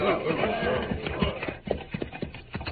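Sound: horse hooves clip-clopping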